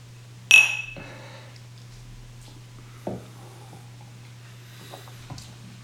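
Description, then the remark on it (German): A bright clink of whisky glasses in a toast rings out sharply at the start, followed by a few softer taps and knocks of glass over a steady low hum, with no talking. “Ja, also von daher, Prost! Prost!”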